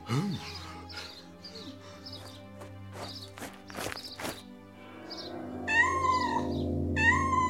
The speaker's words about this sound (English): Lovely baby cats! The big cat. Meow, meow.